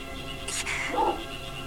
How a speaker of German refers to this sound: Hier ist ein Hund. Ein ziemlich großer Hund.